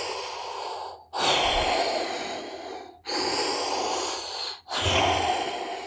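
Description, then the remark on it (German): Heavy, mechanical Darth Vader mask breathing sound effect from Star Wars, in slow, steady cycles, three long hissing breaths separated by brief pauses, loud with no other sounds. “Klingt ganz anders, aber es war das Darth Vader, schwere Nöter. Masken atmen, so als böse Vorzeichen.”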